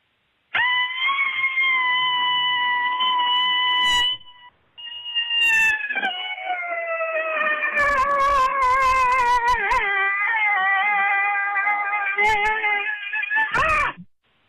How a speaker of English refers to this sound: I haven't minded winter a bit, but I'd love to be at the cabin with some cheesecake. So here's my cabin fever scream.